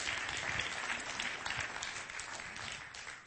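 An audience claps their hands together in steady, sustained applause, a dense wash of many overlapping claps at an even loudness throughout.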